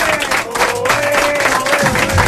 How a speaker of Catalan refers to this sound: Aplaudiments.